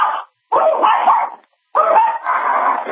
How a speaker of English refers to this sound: What kind of dog is that? It's a Yorkie, and he's driving me crazy.